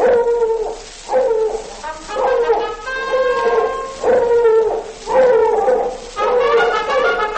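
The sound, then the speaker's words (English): A hound dog barks over and over, roughly once a second, each loud bark drawn out into a mournful, baying yelp with a steady rhythm and no talking. “Let's hear that old hound dog bark and the sound of a hunting horn.”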